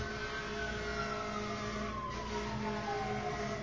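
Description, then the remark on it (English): An emergency vehicle siren drones steadily over road traffic rumble, its pitch sliding gradually lower as the vehicle passes by outside, fairly loud and continuous throughout. “One wonders how it would be if these sirens would play, say, Beethoven or something like that.”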